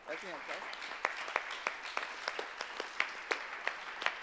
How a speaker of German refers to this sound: Ja, und großen Applaus